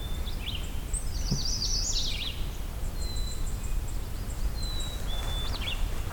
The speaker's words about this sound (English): The chickadee's singing.